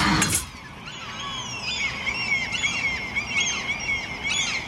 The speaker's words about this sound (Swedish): Fiskmåsar är ett jävla helvete. I maj och juni, vi är i maj nu, varje år så börjar den här skiten gång på gång igen. I hela Sverige, men framförallt utanför mitt sovrumsfönster.